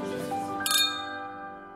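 drinking glasses clinking

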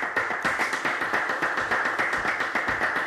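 audience applause

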